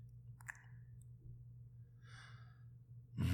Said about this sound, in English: I love it when you gasp like that.